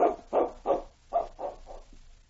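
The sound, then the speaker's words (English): A dog barks six times in two quick sets of three, each bark short and full, the last few growing softer as the sequence winds down, with no voices around it. “Look at that dog, will you? He knows something's up.”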